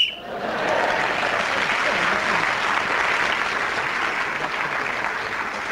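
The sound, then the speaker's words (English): A short, sharp whistle blast ends a round of the radio panel game Just a Minute, then steady, enthusiastic applause from a sizeable audience fills the rest, holding at an even level throughout. “So at the end of that round, Simon Williams speaking as the whistle went, gained that extra point.”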